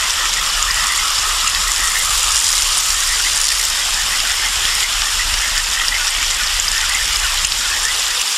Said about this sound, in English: How would you like your water filtered? Like this?